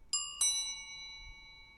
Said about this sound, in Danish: Når vi kommer hjem fra spejder, så skal vi ringe på en klokke, sådan at mor og far kan høre, at vi er kommet hjem.